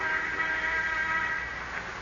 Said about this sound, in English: Until shortly before noon, the sound of the interoffice phone arouses him.